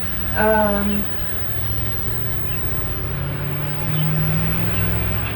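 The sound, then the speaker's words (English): A truck rumbles past outside, its deep engine drone steady and fairly loud for several seconds, swelling slightly near the end, with a brief voice-like tone early on. “Wait till that truck gets gone.”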